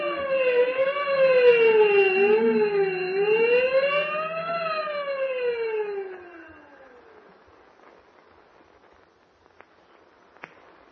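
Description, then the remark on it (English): A prison alarm blares after a prisoner escapes from his cell, a loud wailing siren whose tone rises and falls in slow sweeps for about six seconds, then trails off into near silence with a few faint clicks. “Ring the alarm bell. Hurry.”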